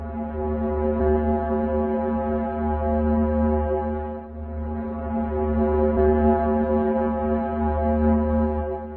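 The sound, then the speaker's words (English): A steady, low droning tone with rich stacked harmonics, a sonification of the planet Venus, sustained for about nine seconds with a brief dip in the middle and no talking. “So Venus has a really nice, like, low drone kind of a sound.”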